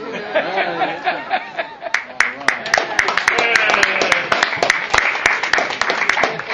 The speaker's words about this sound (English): And I welcome the people that I have not seen before. Can you stand up, please, so we can applaud you?